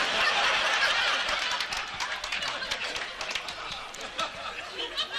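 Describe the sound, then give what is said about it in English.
A large bullring crowd at a bullfight yells and cheers in a dense, continuous roar, strongest at the start and easing slightly, with scattered claps and shouts rising through the noise. “I hear the crowd yelling for you, so I guess you'll have to be going.”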